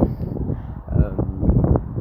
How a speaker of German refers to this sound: Ja, und der Wind, ich bin draußen, wie gesagt, heute ist ein windiger Tag, aber ich wollte es trotzdem nicht nehmen lassen.